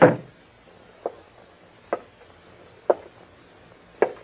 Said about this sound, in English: You close that door and come back here. Close it, I said.